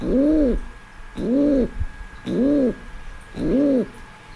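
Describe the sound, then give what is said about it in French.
A feral domestic rock pigeon coos in four soft, rounded, throaty phrases, evenly spaced about a second apart, with no voices over them. “Si vous entendez ce bruit en cœur de ville, c'est que vous avez un pigeon domestique, un pigeon bisé domestique.”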